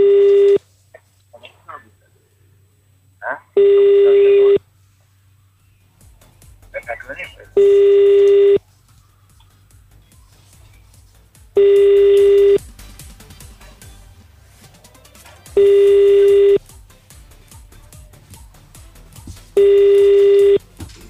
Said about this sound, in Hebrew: יאללה, הנה אנחנו מחייגים.